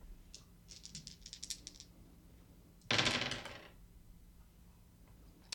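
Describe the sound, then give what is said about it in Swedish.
A quick run of light clicking taps, then a loud burst of dice clattering and tumbling across a hard tabletop for under a second, settling into quiet; crisp, no talking. “Jag pressar en tärning.”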